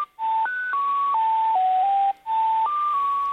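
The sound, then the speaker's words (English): A string of electronic beep tones from the telephone answering machine at the HARP high-frequency transmitter site, shifting between steady pitches in stepwise jumps, with a brief gap before another run of tones. No voices. “A whole series of tones, in fact.”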